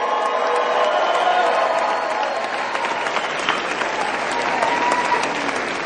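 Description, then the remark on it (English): Steady, dense applause from an audience fills the whole stretch, many hands clapping at a constant loud level with a faint murmur of crowd voices underneath. “I thought you were clapping for my message and then I found out that it wasn't.”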